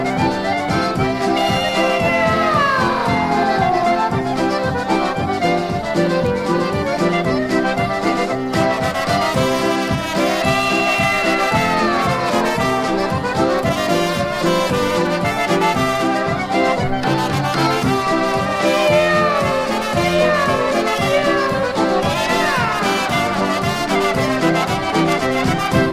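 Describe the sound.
A lively polka band plays steadily while singers deliver drawn-out, sliding meows, voices imitating cats, repeating every few seconds over the bouncy accompaniment.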